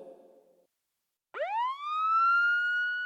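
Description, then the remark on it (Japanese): A tsunami warning siren sounding in Japan as a tsunami warning is issued, with a 2-metre tsunami expected after a large earthquake abroad, starts up after a brief low murmur and a moment of silence, sweeping upward into a loud, steady, rich wail that holds its pitch. “ただいま、津波警報が発表されました。”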